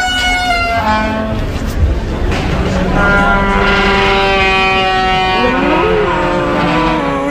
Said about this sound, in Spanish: Un restaurante que se llama Mamón, por cierto. Sí, sí. Y una puerta que era exactamente el sonido de un dinosaurio.